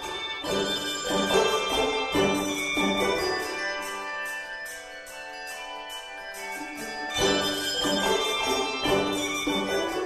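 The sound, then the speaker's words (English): A handbell choir plays a flowing melody, many bells struck in steady rhythm with bright tones ringing on and overlapping, briefly thinning out in the middle before swelling fuller again. No voices. “Maybe you've seen a handbell choir in church around Christmas time or in schools.”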